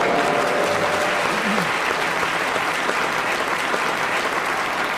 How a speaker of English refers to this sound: So they were applauding my sharp ears, I hope.